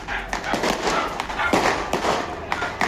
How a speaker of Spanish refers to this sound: Algunos perros se escuchan ladrando. Algunos fulminantes caen sobre las casas. Y no para. O sea, lo que estamos viendo, esto es en la comuna de Pudahuel.